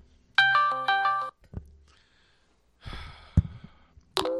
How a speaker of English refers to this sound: That's a Facebook sound. I didn't know Facebook made sounds.